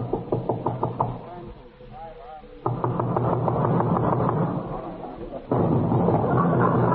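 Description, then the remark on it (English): A quick, even series of about eight sharp knocks on a door rattles out in the first second, followed by muffled voices and a steady wash of noise. “Here I come again. I'm knocking at the door.”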